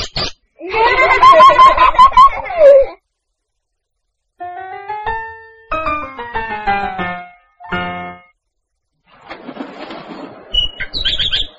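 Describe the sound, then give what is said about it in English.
Bursts of bright bird chirps and whistling calls from a bird named Tweet-Tweet alternate with brief rustling flutters of wings, arriving in several close, fairly loud clusters separated by short silences, with no talking. “Hello, Tweet-Tweet. Oh, point to the bird, please.”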